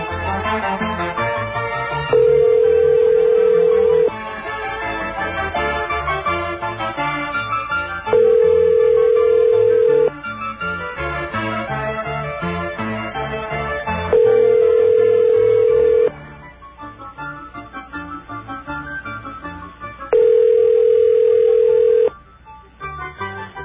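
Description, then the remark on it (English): A telephone ring tone repeats four times in steady two-second bursts with pauses between, going unanswered on a call to a supermarket, over a muffled background of music-like sound, heard as if through the phone line. “Doesn't it make sense that they would answer the phone?”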